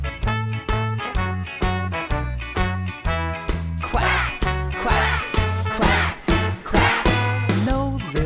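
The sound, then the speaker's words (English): A rapid, rhythmic run of nasal, honking quacks, loud, repeating in a bouncy musical pattern with no talking: Mama Duck's quacking in the Five Little Ducks song. “Maybe if you quack, quack, quack, quack with Mama Duck, all of the little ducks will come back.”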